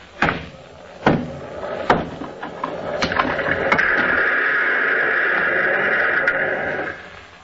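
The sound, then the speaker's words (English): A Superman radio program sound effect of Superman breaking down a stone wall with bare hands, made by banging a baseball bat against a miniature cobblestone wall and pushing the stones over: four or five heavy, sharp crashes about a second apart, then a long, steady grinding rumble of crumbling rubble that fades out. No voices. “One of the typical effects used on the Superman program is the sound of Superman breaking down a stone wall with his two bare hands.”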